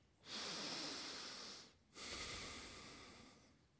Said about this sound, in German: Wenn wir also all das Besprochene umsetzen, wie ist es denn dann, wenn wir einatmen?